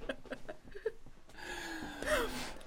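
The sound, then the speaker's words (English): A voice imitates breathing: a few short breathy sniffs and puffs, then a sharp, drawn-in gasp that rises with a hoarse, strained edge, fairly loud. “breathing in, breathing in, breathing out, breathing in, breathing in, taking a breath.”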